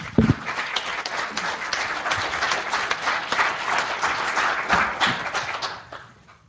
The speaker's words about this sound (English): Fantastic. I think we have a round of applause for those people, please.